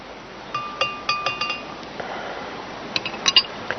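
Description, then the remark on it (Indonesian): A spoon stirs a turmeric and lime drink in a glass, sending out a quick series of bright clinks against the sides, first in a steady run, then a short pause and a few more taps. No one speaks. “Kemudian kita aduk 3/4 gelas jadinya.”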